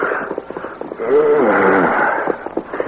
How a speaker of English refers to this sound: Hours after sunrise, two men were riding their horses along the rim of the desert after playing cards in the Arrowhead Cafe most of the night.